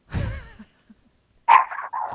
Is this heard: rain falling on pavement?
no